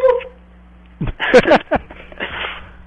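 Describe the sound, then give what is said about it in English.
A dog gives a few short, high, whiny yelps in quick succession, moderately loud, followed by a softer breathy sound, with a faint steady hum underneath. “And then it was a dog, though. It sounded like a dog.”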